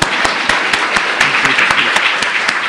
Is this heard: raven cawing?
no